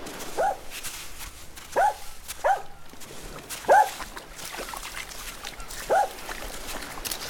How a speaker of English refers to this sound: Oh, God, what's he found now? He's barking at something in the water. I don't know, I can't tell from here.